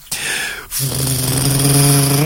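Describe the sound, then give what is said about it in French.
A voice imitates a car arriving: a short breathy whoosh, then a loud, steady buzzing engine drone made with the lips and throat that slowly rises in pitch. “Une voiture qui arrive.”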